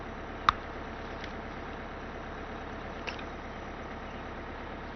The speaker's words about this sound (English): You understand this is a bus to the school now, don't you?